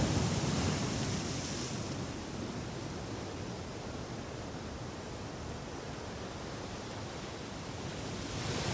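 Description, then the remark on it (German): A steady, soft wash of warm ocean waves on a warm day, with a gentle swell at the start and end, continuous rather than distinct laps. No voices, just the even hiss of water. “Lass dich dort das Spiel der Wellen geniessen.”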